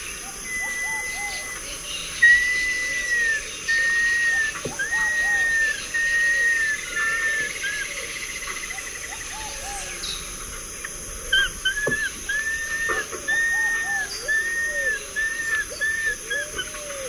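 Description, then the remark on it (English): Ruddy and pale-vented pigeons calling in a forest chorus, with low repeated cooing phrases under a busy backdrop of higher whistled bird calls and steady insect hiss, no voices present. “Nine, with ruddy pigeon, pale-vented pigeon, and others.”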